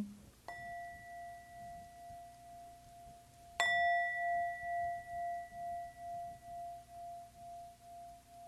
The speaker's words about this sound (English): Someone in this room will be saying, I love that bell. And someone else will be saying, boy, that the bigger bell had a better sound to it.